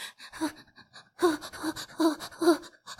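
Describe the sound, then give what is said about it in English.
A voice imitates the shivering, halting breaths of a tiny creature curled up on a cave floor: a run of uneven, shaky gasps and voiced sighs, fairly loud, with brief pauses between bursts. “yes, it breaks apart into a blue mist, which just evaporates into the air to reveal a tiny creature curled up and shivering on the floor of the cave, its breathing and halting sighs that seem to match the pattern of the blue light's irregular glow.”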